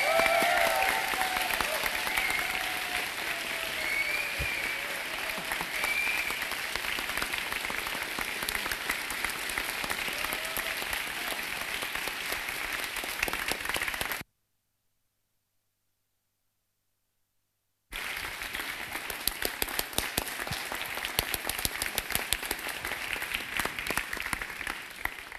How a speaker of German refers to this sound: Ihr glaubt, ihr müsst nicht nach Hause gehen, wenn ihr nicht aufhört zu klatschen, aber es ist leider vorbei.